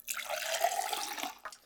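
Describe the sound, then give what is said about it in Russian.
Liquid pours steadily into a glass for under two seconds, a bubbling splash with a faint ringing tone, then a brief clink or drip as the stream stops. No one speaks. “Наливай.”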